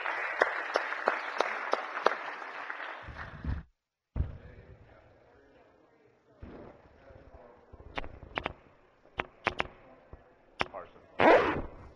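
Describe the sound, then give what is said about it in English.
Steady, dense applause fills the Missouri State Senate chamber for a few seconds as senators welcome back a former colleague, breaks off abruptly, then gives way to scattered sharp claps and knocks over a low murmur. “So I would ask the body to give our former colleague and a good friend, Wes Schumacher, a round of applause and welcome him back to the Senate.”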